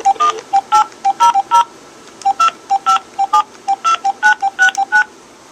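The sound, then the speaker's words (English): A rapid series of touch-tone beeps as a phone number is dialed on a telephone to reach an unlawful call control center and report harassing phone calls, each short dual-pitched tone clearly separated, in quick uneven bursts with brief pauses between groups. “Okay, so there's the number.”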